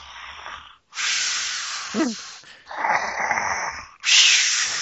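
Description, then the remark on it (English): Loud snoring like a dog's: a series of harsh, hissing rasps, each long breath running into the next with only brief pauses, and no voices. “Sounded like a dog was snoring.”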